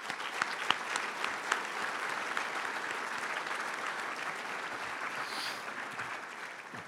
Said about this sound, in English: And I think our parents should give our students a round of applause for that.